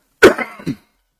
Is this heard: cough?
yes